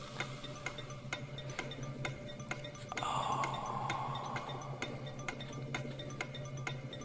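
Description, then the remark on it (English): A clock ticks steadily at roughly two ticks per second, crisp and even, over a low background hum, with a brief swelling whoosh partway through. “Clock's ticking. Yeah, it is.”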